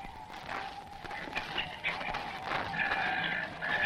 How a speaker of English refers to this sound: Listen to those seagulls. They feel the bad weather coming.